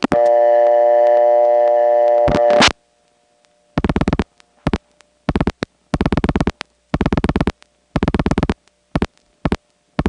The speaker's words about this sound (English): it's the tones that the ANIB system sends down the line from the end office to the CAMA center